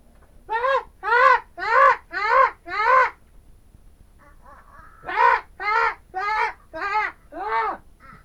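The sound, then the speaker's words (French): A seagull gives loud, harsh cries in two bursts of about five calls each, rhythmic, with a brief pause between them filled by fainter, softer calls. “Le lion furieux essaya d'attraper la mouette, mais elle s'envola en poussant un cri moqueur.”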